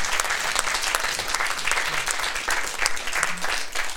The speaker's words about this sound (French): qu'on peut d'ailleurs inviter à nous rejoindre et qu'on peut applaudir.